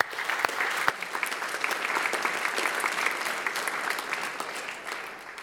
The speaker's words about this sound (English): And so we as a congregation, let's give a round of applause to all of those five people.